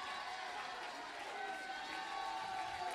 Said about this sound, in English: Anybody that's got reason for it, clap your hands and shout. No, I mean shout. Go ahead and shout.